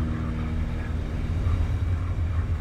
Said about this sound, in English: The engines roar as you make another sweep over the scene, the smoking vehicles littered with bodies.